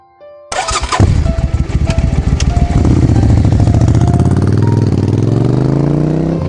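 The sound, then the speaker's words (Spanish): A motorcycle engine cranks and catches, then revs up loudly with a rising, rumbling pitch as it pulls away, continuous with no one talking, as a father hurriedly rides his motorcycle to a school. “Padre apresurado se montó en su moto y llegó pronto al colegio.”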